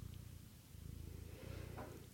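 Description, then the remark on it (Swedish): A soft, steady purr from a female cat rumbles low and continuously, its gentle rhythmic pulsing running the whole time with a faint rustle near the end and no talking. “Jag hörs ju att hon spinner.”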